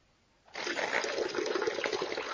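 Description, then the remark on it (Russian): Water pours steadily from a glass onto a sheet of lecture notes, a sudden rushing, splattering hiss that begins after a brief silence and holds at an even, fairly loud level with no voices. “Вот такой стакан, а дна нету, да? Вот. И вот во мне льется вот так вот.”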